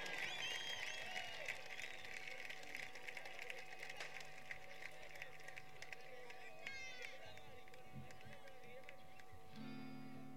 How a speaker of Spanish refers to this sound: Bueno, quisiera pediros un aplauso para Arba Morcillo, que es de aquí, de Castellón, y acaba de marcarse un maravilloso solo.